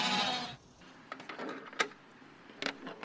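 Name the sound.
sheep bleating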